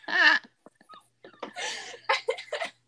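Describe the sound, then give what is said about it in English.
A puppy named Lucy cries downstairs with a high, thin whine, followed by a few quiet clicks and a run of short, breathy whimpers and yelps that rise and fall unevenly. “Your puppy's crying now.”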